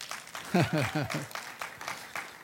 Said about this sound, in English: There's a splattering of applause.